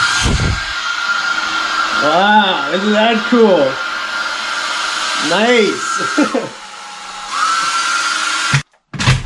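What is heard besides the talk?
hair dryer running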